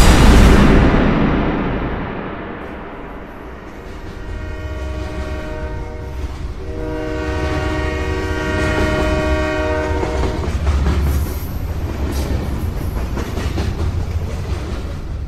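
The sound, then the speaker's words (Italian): A train pulls away, rumbling and rolling steadily along the tracks, its wheels clattering while a long horn sounds in sustained tones midway through, with no voices present. “Shh, continua a camminare finché il treno non è ripartito.”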